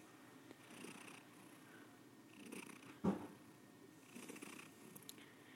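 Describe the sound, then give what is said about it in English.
A domestic cat named Pennywise purrs steadily, a low rumbling that swells and fades with each breath, broken once by a brief soft thump; no one speaks. “Hey, Pennywise the cat.”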